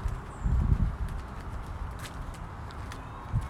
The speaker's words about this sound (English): I hear my sandals clicking every time I walk the bottom of my feet.